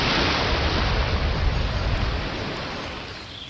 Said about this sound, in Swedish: Det är väl ungefär så här man föreställer sig att det ska låta när vågorna slår mot Kullabergs karga strandklippor.